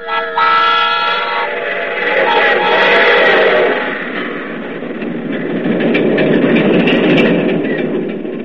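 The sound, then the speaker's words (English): A train whistle blows in a sustained, harmonic multi-tone blast for about four seconds, followed by the steady, loud rumble and clatter of a passing train that continues to the end. “A train with a whistle on it like this?”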